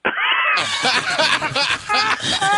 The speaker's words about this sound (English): I've got an abandoned cat.